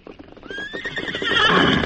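animal, horse neighing and hooves

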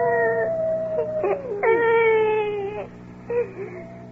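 animal, coyote howling

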